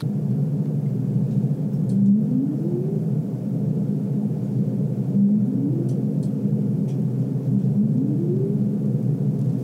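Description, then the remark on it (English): Humpback whale song: three low, rising moaning upsweeps arrive a few seconds apart over a steady, dense underwater rumble, with a few faint clicks above. “Everyone knows humpback whale songs.”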